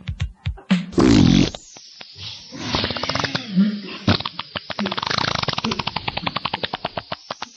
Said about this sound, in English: And here we are, still at the farting competition.